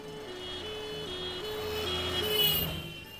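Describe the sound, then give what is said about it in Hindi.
A Mamta Vahan maternity transport van pulls up at night, its engine rumbling beneath a steady, repeating electronic beeping tune. The sound swells as the van nears, then eases slightly. No one speaks. “अरे अम्मा ये लो ममता वाहन आ गई”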